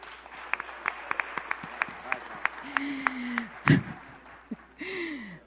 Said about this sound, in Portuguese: A salva de palmas.